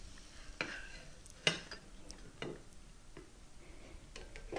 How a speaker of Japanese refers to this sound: じゃあどうでしょう。蓋を開けてみましょう。いいチリチリとした音がしています。